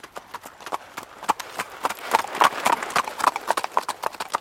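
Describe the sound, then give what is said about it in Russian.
Horse hooves clip-clop in a quick, steady trotting rhythm, a dense run of sharp hollow knocks on a hard surface, moderately loud, with no voices. “А у лошадки на ногах копытца. Цок, цок.”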